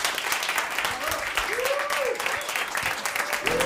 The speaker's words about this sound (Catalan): Va, aplaudiment.